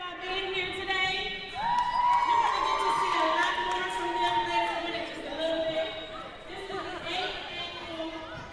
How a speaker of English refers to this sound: parents gathered in the gymnasium at the newly renovated Lyndon McKinley High School on March 31st for the 8th Annual Peace March